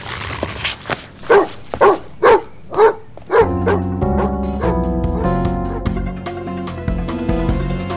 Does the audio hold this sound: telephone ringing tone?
no